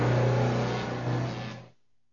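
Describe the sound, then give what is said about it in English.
A new car's engine revs loudly as it arrives, a steady throaty roar lasting under two seconds before it abruptly cuts off into silence, with no voices. “And today, you're showing up in your new car and telling me you're buying a house?”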